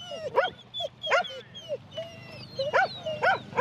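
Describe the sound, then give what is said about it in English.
A sheepdog barks in a string of sharp, high yips, some sliding into whimpering whines, repeated irregularly, with a low rumble of background noise beneath. “Yeah, I'm only selling these dogs, so I'm starting to slow down.”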